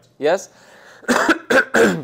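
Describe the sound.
A short voiced sound, then a loud run of three harsh coughs in quick succession, each a raspy burst with brief gaps between them, from a preacher during a sermon.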